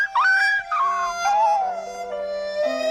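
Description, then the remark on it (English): A small dog whimpers and howls in a continuous, fairly loud stretch, its high, whiny pitch sliding downward in a few drawn-out, wavering cries. “Let's catch a dog next door and wring his tiny little neck.”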